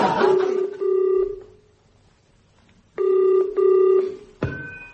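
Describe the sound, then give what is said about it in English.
A telephone ringback tone purrs in two paired double rings with a pause between, heard through the handset as someone phones a woman, then a sharp click as the line is picked up. “I think I'll phone her.”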